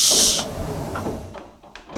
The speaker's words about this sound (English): I'm sorry, the door. Yes, it does that.